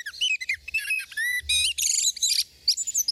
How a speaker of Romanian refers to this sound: O apariție recentă, online, pusă la cale de Societatea Ornitologică Română, cu sunete de tot felul. sunete de zor de zi, pe care le face mierla.